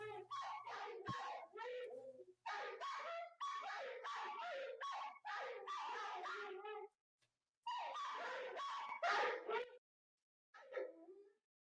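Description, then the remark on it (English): A dog barks and whimpers in rapid runs of high, yelping cries, loud and continuous for several seconds, breaking off briefly, then resuming before a final short whine. “Could do without the barking.”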